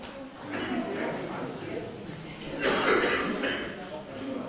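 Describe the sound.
A person in the audience at Pershore Baptist Church coughs once or twice during morning worship, a short harsh burst standing out over a low murmur of voices and room noise.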